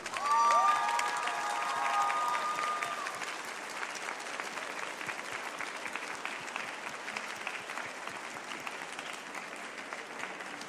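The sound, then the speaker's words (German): A large crowd applauds steadily, welcoming the artist Yusei Matsui on stage at a signing event, with a burst of cheering and whistles at the start before settling into sustained, dense clapping that continues throughout. “Und wir begrüßen jetzt den Künstler, den Mann, der sich das alles ausgedacht und gezeichnet hat, mit einem bitte donnernden Applaus hier auf der Bühne.”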